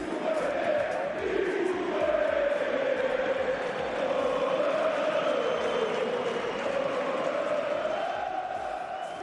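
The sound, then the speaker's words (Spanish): A large crowd of Osasuna football fans chants "Greenwood muérete" in unison during Osasuna's 3-2 win over Getafe, a loud, sustained roar of many voices rising and falling in a repeated sing-song rhythm, hostile in tone, continuous for the whole stretch. “Estos gritos, Greenwood muérete, por parte de una buena parte de la afición de Osasuna.”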